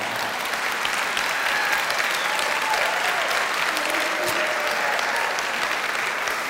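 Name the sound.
audience clapping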